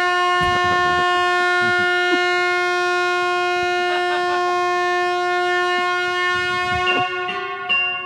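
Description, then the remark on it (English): A train horn blares in one long, unbroken tone lasting about eight seconds, loud and steady in pitch, with a few short rumbling clatters underneath and no voices. “That's the train.”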